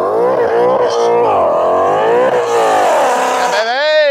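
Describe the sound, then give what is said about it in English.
A loud drag race car engine revs up and down, its pitch rising and falling in repeated surges before climbing sharply at the end, on a test pass without nitrous down a quarter-mile strip. “we're going to get some test passes in this morning just to get a feel for the cars”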